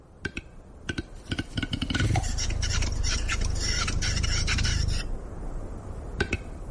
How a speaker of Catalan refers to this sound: I aquest és el so que ens transforma, el del gall fer. Un au en perill d'extinció i amb una població que en algunes zones del Pirineu català ha caigut en un 70%.